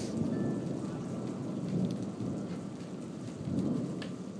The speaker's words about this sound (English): Another one. It's the lighting storm.